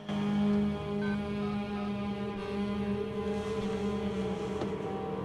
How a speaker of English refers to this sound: Nathan parks his car in an underground car park. He turns off the engine and sits for a moment